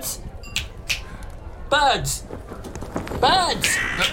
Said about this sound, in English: Birds. Now, hold on, birds.